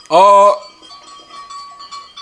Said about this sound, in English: Sounds like a herd of sheep. Is that a herd of sheep, Reverb Guy? You got it correct.